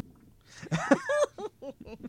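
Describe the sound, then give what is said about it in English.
A short, buzzy comedic fart sound effect with wobbling pitch, followed by a few quick sputtering bursts. It plays loud, with no talking over it. “We gave him fart stories for this.”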